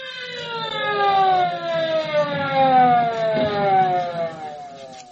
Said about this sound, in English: Shocked and dazed, but unharmed, she waited for the welcome sound of an ambulance siren.